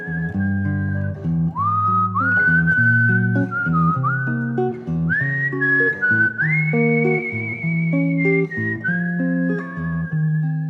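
A slow, lyrical melody whistled clearly in the foreground, with sliding pitch changes, over steady sustained chords from an electric guitar playing underneath throughout.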